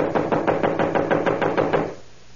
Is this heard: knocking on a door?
yes